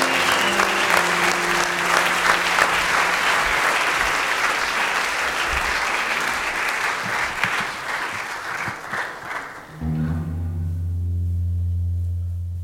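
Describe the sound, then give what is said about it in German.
An audience applauds steadily for a female artist, a dense, even clatter of many hands lasting about ten seconds before giving way to low, sustained musical tones. “Ein kleiner Applaus vielleicht nochmal für die Künstlerin”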